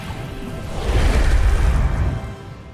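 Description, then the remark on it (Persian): A single rushing whoosh of wind swells up from a soft hiss into a loud, airy gust with a low rumble beneath, then trails away over about three seconds. “آب، خاک، آتش، باد.”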